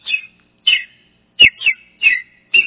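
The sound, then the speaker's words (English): Sparrows chirping at the Garden Tomb in Israel in 1995, in a quick series of about six bright, sharp calls, each short and slightly buzzy, clear with brief pauses between them and no talking. “I look around. Guess what's there? Sparrows.”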